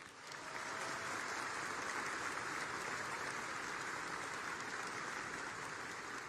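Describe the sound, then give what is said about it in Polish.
A crowd at the Great Convention of Konfederacja applauds Kuba Molenda after his appearance, a steady, dense wash of clapping that swells in over the first half second and then holds at a constant, loud level to the end, with no voices. “Jeszcze raz wielkie brawa dla niego!”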